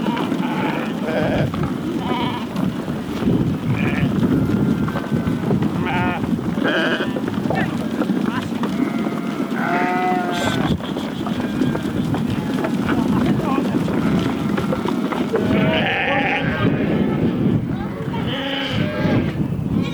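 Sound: sheep bleating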